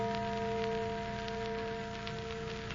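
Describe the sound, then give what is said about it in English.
A church bell at a little old, disused church at the other end of a country valley rings on a moonlit night with a steady, sustained metallic hum of layered tones that barely fades, set against a soft hiss like light rain. No one speaks. “Church bell.”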